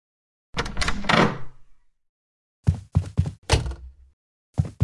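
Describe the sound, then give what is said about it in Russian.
A hospital ward door opens with a rattling clunk that rings out briefly as people enter, followed after a pause by a quick run of heavy thuds and clatters. No one speaks. “Дверь открывается, и в палату входит Первушин с мэром.”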